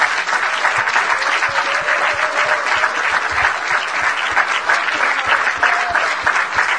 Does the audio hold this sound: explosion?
no